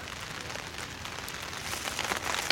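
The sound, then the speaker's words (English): Steady rain patters down at an outdoor campsite with pitched tents, a dense, continuous hiss of drops that swells slightly toward the end, with no voices present. “Looks like the rain did not hold off. Rain is coming down.”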